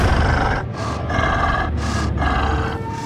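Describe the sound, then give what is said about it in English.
Deep, heavy breathing of a hulking beast with a wildcat's ears and a wolf's snout, in cold pitch darkness; a steady rhythm of raspy, grunting breaths that rise and fall about once a second, loud and alone. “Just then, the blackness in front of her moved, and she heard something breathe.”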